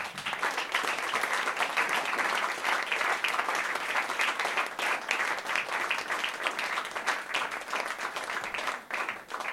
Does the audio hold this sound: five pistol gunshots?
no